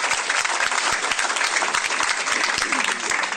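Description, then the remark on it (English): An audience breaks into steady applause for school principals, a dense, continuous wash of many hands clapping at an even loudness for a few seconds, with no voices standing out. “How about a round of applause for our principals?”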